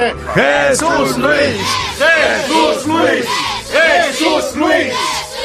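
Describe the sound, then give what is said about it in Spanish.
A loud crowd cheers and shouts together, many overlapping voices rising and falling in waves of rowdy yelling, steady and energetic throughout, with clapping likely buried underneath. “Bueno, gracias por estos jaleos y estos aplausos que tanto me estimulan.”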